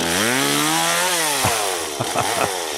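A chainsaw engine drones loudly and steadily, its pitch rising slightly, then a few sharp bursts break in near the end as the blade bites into wood while firewood is sawn in a forest.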